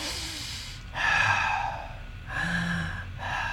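Slow, deep meditation breaths drawn in and let out, two long airy breathing cycles with brief pauses between, no talking.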